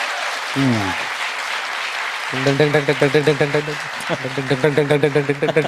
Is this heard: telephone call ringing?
no